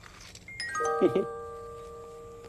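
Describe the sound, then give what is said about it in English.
A little toy car rolls through a small tunnel made from a tube, setting off a quick descending run of bright chiming tones with a brief clatter, then the notes ring out and fade. No talking. “Small tunnel that this car could go through.”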